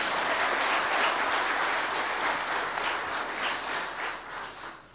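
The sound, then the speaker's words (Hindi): Sustained applause from an audience of nominated participants being welcomed at Gyan Sarovar. Many people clap at once in a dense, steady patter that holds for several seconds and thins slightly toward the end, with no voices over it. “तो एक बार फिर से जोरदार तालियां।”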